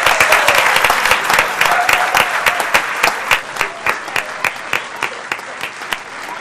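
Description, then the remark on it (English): An audience at a meeting gives a man one more round of applause for his great work; the clapping is dense and loud at first, then thins out into scattered individual claps as it tapers off over several seconds. “Give him one more round of applause.”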